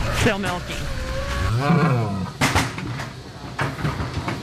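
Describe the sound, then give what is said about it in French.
Dairy cows moo inside a small barn in Wisconsin built to house 30 to 35 cows: a couple of drawn-out, wavering lowing calls rise and fall, with scattered knocks and rustling in the background. “C'est une petite étable construite pour héberger entre 30 et 35 vaches.”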